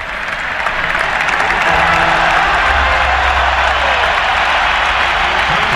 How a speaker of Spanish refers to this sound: Pedri, va al campo. Va al campo Pedri, se marcha Olmo. Ovación para Pedri.